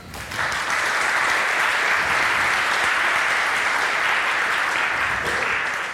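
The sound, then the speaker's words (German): An audience at a talk bursts into loud, sustained applause to welcome the speaker, dense clapping starting abruptly and holding steady for several seconds without any talking. “Einen kräftigen Applaus”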